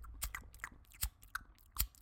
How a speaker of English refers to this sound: This is eating sushi.